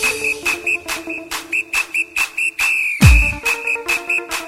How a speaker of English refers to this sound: Blow my whistle, bitch.